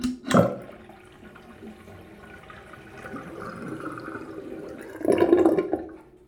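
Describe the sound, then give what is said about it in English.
A smartwatch is dunked into water with a sharp splash, followed by steady sloshing and trickling, then a second, fuller burst of splashing near the end. No one speaks. “So I hope you can believe that I really did dunk it.”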